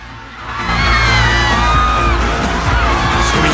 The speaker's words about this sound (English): The anguished crowd kneels and cries.